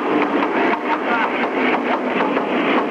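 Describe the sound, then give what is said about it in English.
A pipeline pig, a plastic and steel cone that precedes the oil down the route, bangs and rattles inside the Trans-Alaska oil pipeline: a steady, dense metallic clatter with faint repeated knocks every fraction of a second, loud and continuous throughout, with no voices. “The banging comes from what oil men call the pig, a plastic and steel cone which proceeds the oil down the route.”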